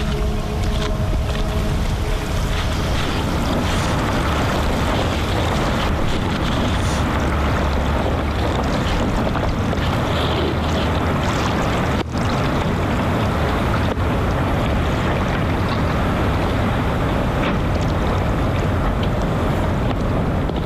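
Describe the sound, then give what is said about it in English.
Hundreds of tons of ice melting, breaking apart and collapsing into the surrounding polar sea make a loud, continuous rumbling roar with dense crackling and sloshing water for about twenty seconds, without voices. “That colossal sound of hundreds of tons of ice melting and collapsing into surrounding polar seas has become a resounding alarm call for each and every one of us, signalling the warming of our planet and the existential threat which it poses.”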